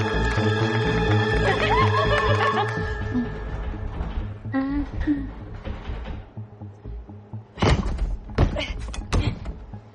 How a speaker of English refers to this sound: Esther struggles with the basement door. She pushes against it as she grips the handle.